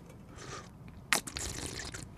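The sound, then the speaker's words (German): Tea is poured into a cup: a soft splash at first, then a steady trickle of liquid that continues for about a second with no voices. “Ah, da wird jetzt mir da gerade angegossen.”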